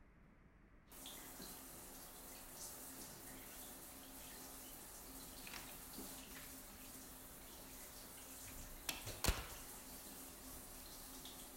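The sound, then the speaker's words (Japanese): A shower starts running after a brief silence, a steady hiss of spraying water that continues throughout, with a sharp knock near the end. “私も一緒にシャワー浴びようかなって。”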